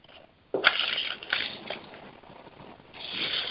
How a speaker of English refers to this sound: Okay, it's just that there was a lot of background noise of somebody scraping a chair and rustling papers. It was putting me off for a second.